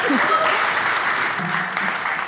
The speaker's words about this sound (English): Thank you so much. Another round of applause for Erie Essex, please.